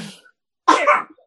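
A child who is sick with a bad cough coughs once in the background, a short, rough, breathy burst with a double push, at moderate loudness and otherwise alone with no talking.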